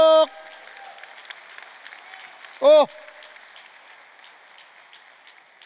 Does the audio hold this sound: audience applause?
yes